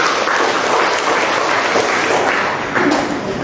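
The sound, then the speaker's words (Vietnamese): A crowd claps steadily to welcome a young person, a dense patter of many hands holding loud for a few seconds without pause. “Con bé lên đây, con một người bạn trẻ nữa đang ngồi dưới chúng ta cho một tràng pháo tay chào người bạn trẻ này.”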